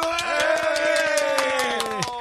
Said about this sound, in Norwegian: Mine damer og herrer, stor applaus!